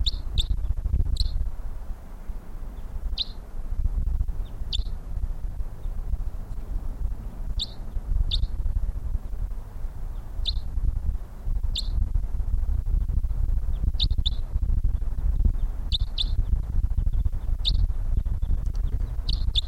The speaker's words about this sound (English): That bird in the distance.